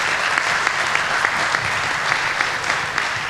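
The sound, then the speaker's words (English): Steady conference audience applause from many hands as a speaker is introduced, a dense, even crackle of clapping that holds at a fairly loud level throughout, with no voices standing out. “Just showing up gets you applause.”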